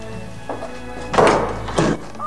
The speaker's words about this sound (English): Hannah flings open the door to see Diana and Mary running towards the house, waving wildly.